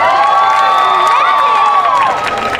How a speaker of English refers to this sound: How about a big round of applause for the brains behind Beaglemania, Don Lennon!